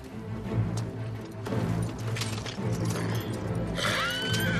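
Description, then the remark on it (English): A black horse whinnies near the end as a man hurriedly mounts it and yanks on its reins, a bright, wavering cry rising over a dense, busy backdrop of rumbling and clattering sound. No one speaks. “He hurriedly mounts a black horse and yanks on its reins.”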